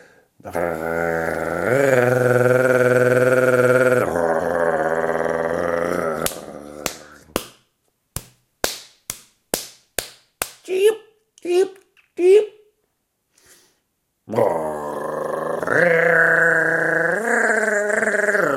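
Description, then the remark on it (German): Sharp, dry wing claps of a nightjar (Ziegenmelker), a relatively small bird with narrow wings, in courtship display: about a dozen loud cracks in an irregular, quickening series, the later ones with brief tonal notes, heard alone between stretches of talking. “Und wir hatten es bei der Waldohreule, die auch so ein Flügelklappen hat. Und das macht auch der Ziegenmelker.”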